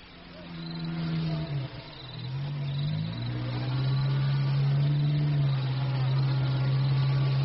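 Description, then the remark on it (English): A lorry engine revs hard in a loud, continuous drone, dipping briefly, then climbing in pitch and holding at a strained high roar while the wheels fail to grip on soft ground. “Let's have that lorry hitched up,”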